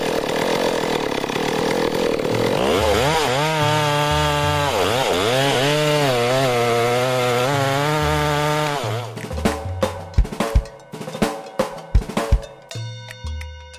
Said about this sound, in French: C'était une tronçonneuse.